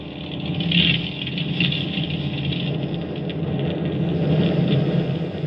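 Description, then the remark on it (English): The aircraft's own engines drone steadily in flight, a constant deep rumble with a hissing edge that holds at the same fairly loud level throughout, with no voices. “Suddenly, there was nothing but the sound of our own engines.”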